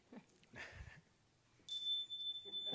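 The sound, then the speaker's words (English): A debate timekeeper's bell, signalling speakers to wrap up their answers, strikes once, loud and bright, its high metallic tone ringing on steadily for over a second after some soft rustling sounds. “They also have a bell. Can we hear the bell?”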